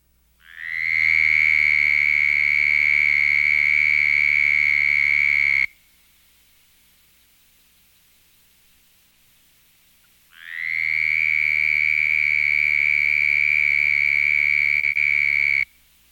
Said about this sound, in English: In the closely related southern toad, the trill is roughly twice as fast, with 68 to 78 pulsations per second, at a frequency of 2150 cycles per second.